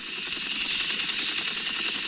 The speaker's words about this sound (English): I hear the helicopter.